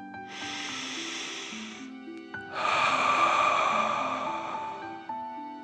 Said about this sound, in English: Breathe in through your nose, filling up your belly, and then out through your mouth, pretending you're breathing fire. Ready? Deep breath in and out.